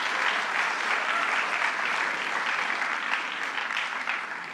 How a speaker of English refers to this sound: That was Paul Feinman. Let's give him a round of applause for that case.